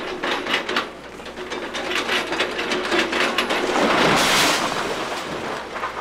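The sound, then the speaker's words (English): A big orange excavator with a claw tears down a house, number 924, on North Bradford: steady loud crunching and cracking of wood with clattering debris, swelling into a heavier surge of collapse near the end. No one speaks. “There's a big orange excavator with a claw, and it just took an entire house down.”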